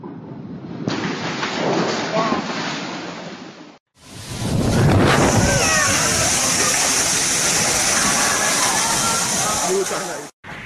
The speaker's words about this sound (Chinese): 那么在开始进入今天的学习之前，我想给你们放一段视频，看看昨天的台风到底有多么严重。